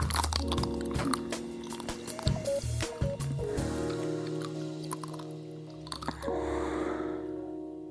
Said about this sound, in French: Et si vous cherchez d'autres spots sur YouTube, par exemple, vous trouverez des femmes, beaucoup de femmes croquant goulûment dans leur esquimau, les yeux fermés.